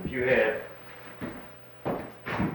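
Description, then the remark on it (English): A door is swung partly open, giving three short rustling knocks in quick succession after a brief murmur of voice at the start. “If you had a door like this, and the maids, you weren't looking, so the maid would kind of take the trash, and, I mean, the dirt, put it right here.”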